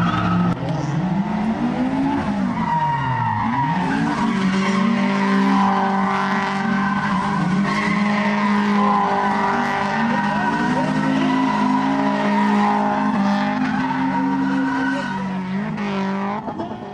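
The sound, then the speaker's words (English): Motorbike engines roar and whine continuously as riders race in the men's final of the King of the Cone 2024 competition, their pitch dipping and climbing as they rev and brake, with tyres skidding and screeching over the loud, unbroken engine noise. “Under pressure too by a lot of bikes, but we got there in the end.”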